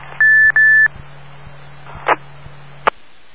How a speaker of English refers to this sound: Yeah, I do. Two beeps. You can hear that, huh? Yeah, you just sent an A and an I.